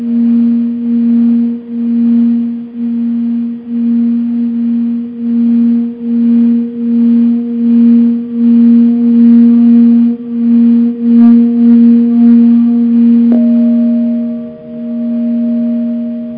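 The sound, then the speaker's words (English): A singing bowl being played rings with a steady low hum and a few faint higher overtones, its loudness swelling and dipping in a slow, regular wobble as the sound goes in and out of phase for the whole stretch, with no talking. “I'm going to set the phone down for a second and play the bowl and see if you can hear it.”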